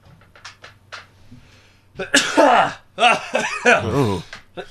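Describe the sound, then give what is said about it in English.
Two loud sneezes burst out one after the other, strongly voiced and drawn out, following a couple of seconds of quiet small clicks and rustles. “You got to survive those sneezes.”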